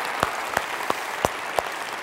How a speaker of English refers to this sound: Let's give all those people a great, amazing round of applause again. Amazing.